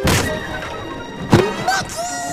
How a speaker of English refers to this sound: A bandit turns a jack-in-the-box crank and a boxing glove punches Goofy.